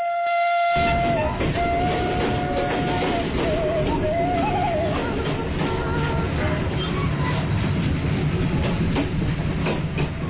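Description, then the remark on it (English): A diesel train engine roars loudly and steadily on the way to Kampung Naga, Tasikmalaya Regency, West Java, with a sustained horn-like tone in the first few seconds and a faint rhythmic rattle of the cars running underneath. “The roaring sound train diesel machine takes us to a place which amazes both natives and foreigners named Kampung Naga.”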